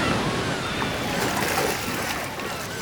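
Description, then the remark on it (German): Steady, loud rush of ocean surf in a bay where a surfer rides the waves, waves washing and breaking continuously with a hissing, foamy texture and no clear pauses between them. “Er suchte sich die beste Welle aus, die weit und breit zu sehen war.”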